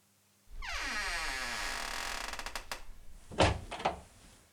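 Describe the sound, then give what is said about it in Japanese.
A heavy door groans with a long, drawn-out creak as it swings late at night, then shuts with a couple of solid, resonant thuds. No one speaks. “さあ、扉を閉めてこちらへいらっしゃい。”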